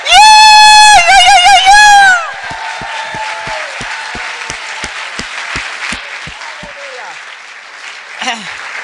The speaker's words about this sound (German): Hallelujah. Gib dem Herrn ein Klatschopfer.